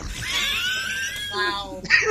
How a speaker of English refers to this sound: Well, here, let's try another another button. Give us another one. This one's called hot dog squeal.